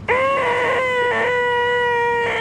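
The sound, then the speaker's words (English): A loud, shrill electronic-sounding squeal holds a steady pitch for over two seconds, with a rich buzzy tone and a slight wobble partway through. No one speaks over it. “It sounds like a CRT monitor or 20 CRT monitors doing that little squeal that you need to like turn them off and on to get rid of.”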